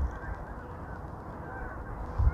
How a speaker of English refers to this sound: Here's some geese.